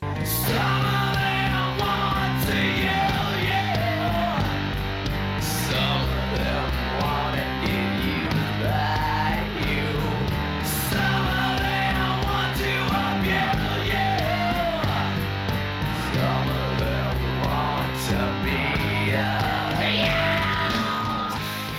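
A dark, heavy rock cover version of a song, made darker, with harsh screamed vocals added to make it more dramatic and frightening, over dense distorted instruments, loud and steady throughout with a repeating rhythmic pattern.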